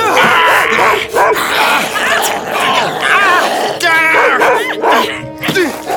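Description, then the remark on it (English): A dog snarls and barks loudly, growling almost without pause in a frantic, continuous stream, with strained groaning voices mixed into the commotion. “Now you bloody dog!”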